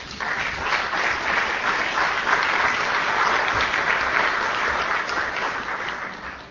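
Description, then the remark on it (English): Steady, sustained applause from an audience, a dense wash of many hands clapping at an even loudness throughout, with no voices standing out above it. “Now you can applaud.”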